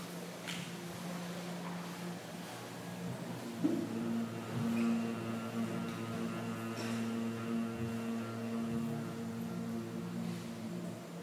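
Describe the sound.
After a quiet breath in, a single long, steady Brahmari hum begins a few seconds in, held at a natural, moderate volume and even middle pitch until the end of the exhale; the ears are not plugged.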